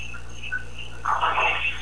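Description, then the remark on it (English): Coqui frogs chirp in the background through someone's open microphone, with short, high, repeating calls over a steady noisy hum, rising into a brighter, busier burst of chirping toward the end. No one speaks. “Hey, whoever's got the Cokie frogs in the background, your mic is open.”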